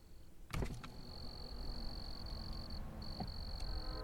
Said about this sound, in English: Hey, do you want to hear the crickets?